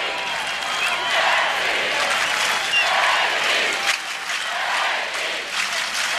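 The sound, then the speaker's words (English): A large tennis crowd applauds and cheers steadily for Steffi Graf's effort in a match against Hingis. A dense wash of clapping with scattered whistles and shouts rises over it, sustained throughout with a brief dip near the middle. “You have to feel somewhat for Hingis while you salute and applaud the great effort by Graf.”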